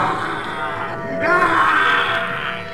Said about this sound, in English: For as the full silver moon loomed above us, I heard a fierce, slavering growl. A wail from a being, neither human nor animal.